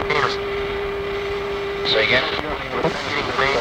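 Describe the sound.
A steady, droning aircraft engine hum with a constant tone runs throughout, fairly loud and close, with muffled voices briefly speaking over it toward the end.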